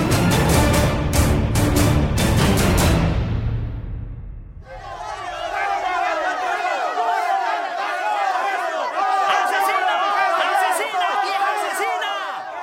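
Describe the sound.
A loud, pulsing burst fades out, then a large crowd erupts in continuous angry shouting and jeering at a woman arriving at the prosecutor's office after her capture, many voices overlapping at steady volume through the end.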